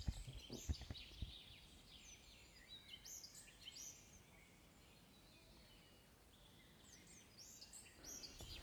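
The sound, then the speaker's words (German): Birds chirp and sing in scattered, high bursts over a quiet outdoor background, with a few soft knocks near the start and no talking. “In dem Sinne hören wir noch ein bisschen die Vögelchen zu.”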